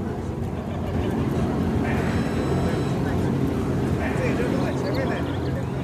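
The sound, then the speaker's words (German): Steady low rumble inside a self-driving car on the move, its driver's seat empty, heading toward Google headquarters in Silicon Valley, with a brief high electronic chime partway through and faint, indistinct voices underneath. “So, wir sitzen jetzt herinnen. Einmal schauen, wie das selbstfahrende Auto funktioniert.”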